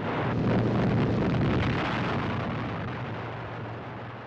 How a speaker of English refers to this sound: A strategic bridge knocked out by precision bombing.